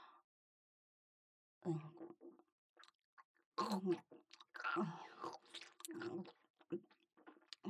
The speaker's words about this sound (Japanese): いいんですか、ご主人様。ご主人様の精子がもぐもぐもぐもぐ食べられちゃってますよ。